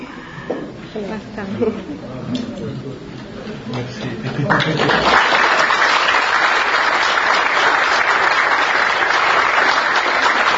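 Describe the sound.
Audience applause swells after a few seconds of murmuring voices, becoming a loud, steady, dense clatter of many hands clapping that continues unbroken to the end.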